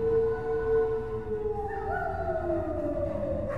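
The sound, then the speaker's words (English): A single long wolf howl, loud, holding a steady mournful tone before sliding slowly downward over a low rumbling background. “To make matters worse, Moments later, Rondellis howled.”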